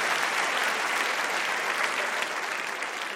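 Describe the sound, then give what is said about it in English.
Steady audience applause for the participants of a debate fills the whole stretch, a dense wash of many hands clapping at once, loud and sustained with no pauses and no voices standing out. “I'd like to give a round of applause to all of them.”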